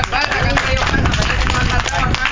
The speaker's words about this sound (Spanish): Un aplauso, por favor, para el compañero. Más fuerte.